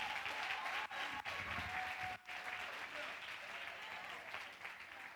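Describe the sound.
A crowd applauds steadily for about five seconds after a spoken word performance, a dense wash of clapping at an even loudness with a few brief dips, and faint voices mixed underneath.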